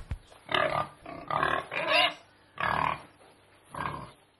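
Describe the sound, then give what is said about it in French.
Pigs grunt and oink in a series of five or six rough, nasal bursts with short pauses between, moderately loud, with no talking. “Les déchets alimentaires seront envoyés à une ferme où les cochons pourraient manger les aliments.”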